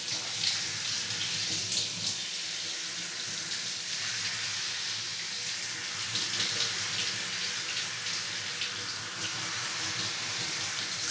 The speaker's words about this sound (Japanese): 目に水と泡が入らないように気をつけてね。湯加減はどうかな。冷たくない？ちょうどいい？それじゃあこのままシャワシャワっといくね。